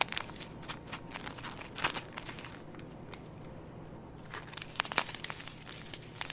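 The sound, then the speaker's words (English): A plastic packet of breadcrumbs crinkles and rustles in irregular bursts of crisp, sharp crackles, with brief quieter pauses between handlings. No one speaks. “Here's our little packet of breadcrumbs, which I'm super excited about because I really, really like crunchy stuff on top of food.”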